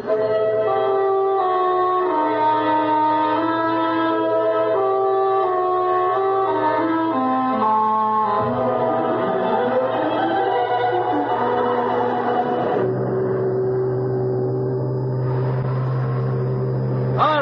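foghorn blowing

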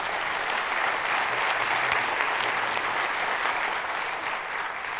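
audience applauding

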